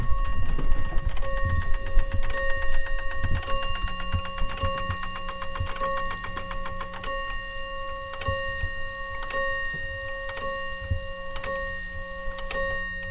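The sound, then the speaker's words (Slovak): An old, just-repaired mechanical clock, its striking set off by the clock repairer, strikes a series of bright, ringing chimes at a steady pace, each tone sustaining over a low whirring and clicking of gears running underneath. “Takže hodiny budú opravené, vyzdravejú. Áno, a teraz vám môžem aj spustiť bitie, ako odbijajú.”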